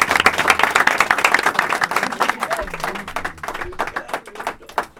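An audience claps steadily, a dense wash of many hands that stays loud for a few seconds before thinning out into scattered individual claps toward the end.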